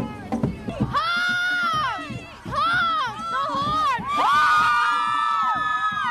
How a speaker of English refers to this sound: Washington, D.C., outside the metro station, young people are burning incense, drumming, jumping up and down in the rhythm of the drums, keeping themselves warm, eating Oreo cookies, and holding their signs up so that people will honk for peace.